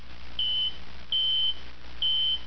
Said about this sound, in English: The beep of Shizor's personal comlink interrupted his musings.